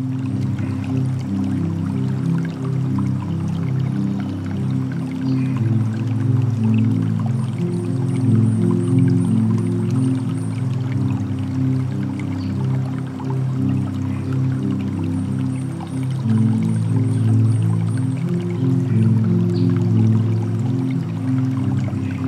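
flowing river water

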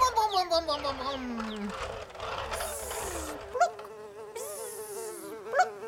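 fly buzzing

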